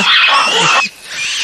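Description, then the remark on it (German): A loud, harsh roar of large monkeys, recorded and played back on a small loudspeaker box at full volume, bursts out for under a second, raspy and broad, then drops to a quieter lingering rasp. “Ihr habt Affengebrüll aufgenommen? Das waren aber keine kleinen Äffchen, sondern ziemlich große.”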